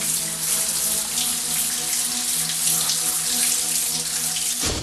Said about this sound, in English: Danko takes a shower. He relaxes as the water hits his body.